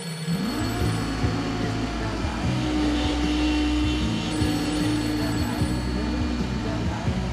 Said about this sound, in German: Ein Klingelton, der durchdringt. Ein Flugzeug, das startet. Ein Hund, der bellt. Ein Wasserhahn, der tropft. Ein Zahnbohrer, der kreischt.